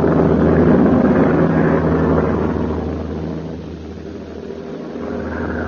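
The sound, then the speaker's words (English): A steady, loud drone of a Flying Fortress bomber's engines blends with a roaring rush of severe hurricane wind as the plane is lost over the Gulf of Mexico, continuous throughout, easing slightly in the middle before swelling again. No one speaks. “saved the lives of the crew in Flying Fortress aboard which he was radio operator. The plane had become hopelessly lost over the Gulf of Mexico during a severe Gulf hurricane.”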